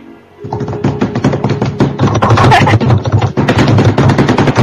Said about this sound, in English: But yes, drum roll, please.